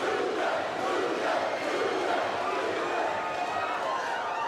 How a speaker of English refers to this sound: The crowd with that chant of Luger, Luger.